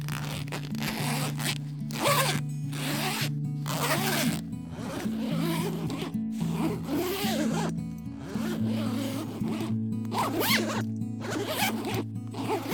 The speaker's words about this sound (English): Almost there. Just this thing's got a lot of zippers. This is crazy. This is way too many zippers. I promise this is the last one.